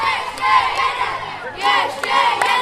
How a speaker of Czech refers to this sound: bouří Klatovský dvůr. Utkání tady sledujeme na obrovské LED obrazovce.